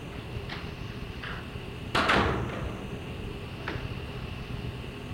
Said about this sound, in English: I'm going to close those doors up. This sound bothers me. It's distracting you a little bit. I'm sure it's distracting you.